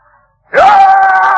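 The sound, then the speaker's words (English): A person loudly imitates a tiger's scream, a sudden sustained roaring cry that rises sharply and holds strong after a brief quiet moment. “And the tiger screamed.”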